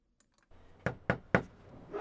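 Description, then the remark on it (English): Three firm knocks on a house door in Willits, near Highway 82, by a Democratic state senate candidate canvassing voters, in a steady, evenly spaced rhythm, fairly loud, with a low background hum before and after. “Carrie Donovan is knocking on doors in Willits today, near Highway 82.”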